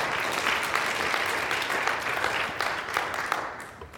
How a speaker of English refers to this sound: That's a good place to give him a clap offering, amen.